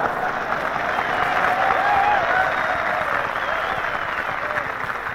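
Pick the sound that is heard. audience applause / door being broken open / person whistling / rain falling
audience applause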